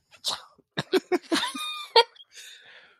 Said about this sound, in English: Oh, there's not soundproofing apparently because we could hear somebody sneeze. That was funny.